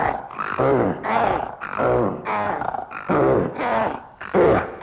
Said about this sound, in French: Pendant que l'eau chauffait dans la marmite, l'ogre et sa femme s'allongèrent pour se reposer un peu. Et ils commencèrent à ronfler.